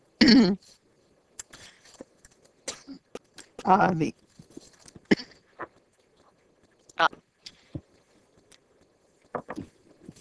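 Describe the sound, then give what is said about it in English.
Two loud, harsh coughs about three seconds apart, followed by softer throat-clearing and small scattered clicks and rustles. “That was a cough break.”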